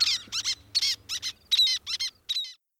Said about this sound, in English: Least tern.